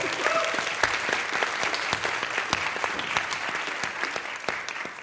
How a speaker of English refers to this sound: So I think we should give that a clap.